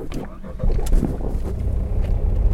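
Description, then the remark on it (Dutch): A small car, a kind of Mini, drives along with a steady engine rumble and road noise that swell slightly after the first half-second, with faint, indistinct voices underneath. “De plaatsvervangend commandant bracht de fotograaf en mij ook in een gewoon autootje, een soort mini was dat, bracht ons 10 minuten verder naar een open veld.”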